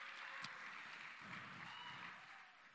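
A steady round of applause from a crowd, a dense, even wash of clapping that holds for about three seconds with no voices over it, then starts to thin slightly at the end.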